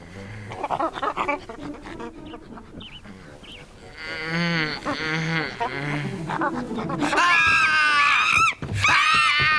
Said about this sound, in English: Will somebody get this monkey off my bed? Oh. She's not a monkey. She's a chimpanzee. And her name is Winona.